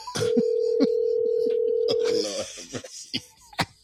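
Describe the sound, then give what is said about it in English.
A steady, unbroken telephone dial tone hums for about two seconds, fairly loud, as a call to Nurse Thickums is placed, then cuts off into faint clicks and muffled handling noises. “I'm gonna really call Thickums.”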